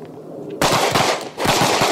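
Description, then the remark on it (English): Loud bursts of automatic gunfire erupt after a quiet start, two sustained rapid volleys of sharp, crackling shots separated by a brief dip, with no talking. “You want a full mag in the weapon?”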